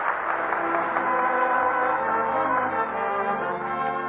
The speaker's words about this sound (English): Hear that? That's the greatest award there is. The applause of a nation.